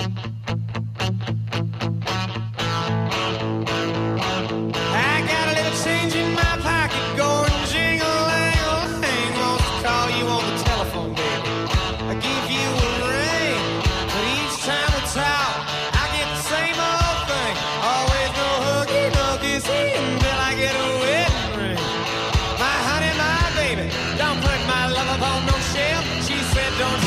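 A loud southern rock song with distorted electric guitars and a steady driving drum beat, playing continuously at full volume after a brief opening strum.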